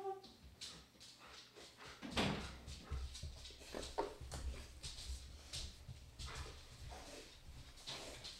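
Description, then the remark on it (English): A dog scratches and paws at a door in a series of irregular rasping strokes, with one heavier thump early on, over a steady low background hum. “Because it's like you heard him fall and then he scratched the door.”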